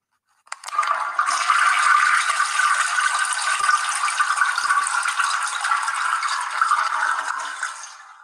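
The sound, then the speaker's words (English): Water rushes and gurgles steadily down a drain for several seconds, a continuous splashing flow that starts abruptly and holds at an even level, with no voices. “Water go down the hole.”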